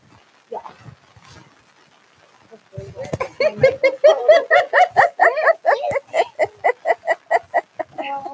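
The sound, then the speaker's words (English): A dog makes a rapid, steady run of short, pitched yips or whimpers, about a dozen in quick rhythm, loud, following a brief faint voice at the start. “We have our toddler dog here.”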